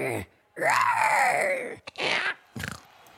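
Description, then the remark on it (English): A person imitates a velociraptor roar in a dinosaur roar game scored by a 'dino meter': a long, loud, rasping screech that swoops up then down in pitch, followed by a couple of shorter hissing, growly bursts. “Now it's time for the Velociraptor. Are you ready? Ready. Give us your best roar.”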